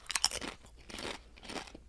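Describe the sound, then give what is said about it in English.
Crunching of a crisp, triangle-shaped chip that looks like a Dorito, with several sharp, bright bursts of chewing in a loose rhythm, loud, no talking. “Am I supposed to chew into the mic?”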